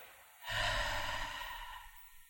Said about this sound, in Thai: ในพระไตรปิฎกเองเวลาสอนถึงอานาปานสติเนี่ยท่านสอนหายใจออก ดูครับภิกษุทั้งหลายให้เธอคู่บัลลังก์ตั้งกายตรงดำรงสติเฉพาะหน้าหายใจออกยาวรู้ว่าหายใจออกยาว